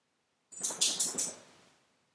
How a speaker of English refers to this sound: My dog is wandering around.